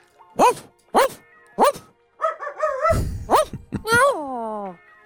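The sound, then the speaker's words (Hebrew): Dogs bark in three sharp, evenly spaced yelps, then a wavering whine, a few more barks and a long falling howl, all loud. “ועכשיו חברי החתן כלבי הגישוש מודיעים לי שרון חולדאי בדרך לפה, אז אולי כדאי להחביא את החתן שלא יהפוך לבופה.”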